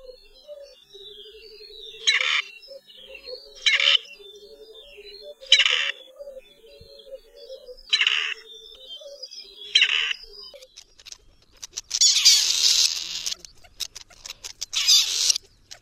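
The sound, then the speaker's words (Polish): A partridge's pair contact call at dusk, given as birds separated during the day rejoin their mates: short, raspy, slightly screeching notes repeating roughly every two seconds over a low, steady trill, ending in a denser burst of harsh calling. No voices. “Usłyszeć go można najczęściej o zmierzchu i w nocy, gdy ptaki rozdzielone w ciągu dnia ponownie łączą się w pary.”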